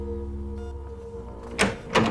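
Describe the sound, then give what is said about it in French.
A door opens with two short, fairly loud mechanical swishes close together, heard over a low, steady electrical hum that fills the quiet beforehand. “La porte s'ouvre à nouveau.”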